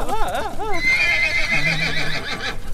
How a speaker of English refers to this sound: They all shriek. The horse, which is on fire, starts run. It charges forward, pushing 2 of the guys over.